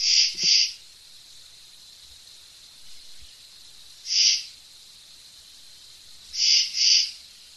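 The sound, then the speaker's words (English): A common true katydid calls with harsh, raspy pulses, a pair, then a single, then another pair, loud over a steady high insect drone. “Here's another, the common true katydid.”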